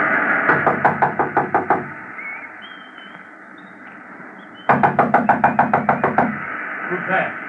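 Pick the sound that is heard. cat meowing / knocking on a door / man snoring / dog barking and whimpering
knocking on a door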